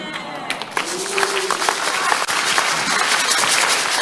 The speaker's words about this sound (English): The Lord bless those who are clapping.